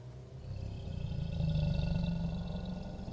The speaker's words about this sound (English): Something dark and angry awakens inside of you. Its roar echoes inside your skull as it demands blood and broken things.